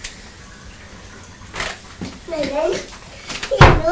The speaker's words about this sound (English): Yes, it was a big noise as the water went down the plug hole. Water went down the plug hole, didn't it? It was a big noise.